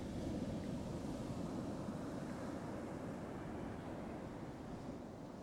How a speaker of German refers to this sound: Auf den Rhythmus der Wellen. Der Wellen, die hier schon seit Jahrtausenden ans Ufer schlagen. Ein zeitloses Kommen und Gehen der Wellen. In einem gleichmäßigen Rhythmus.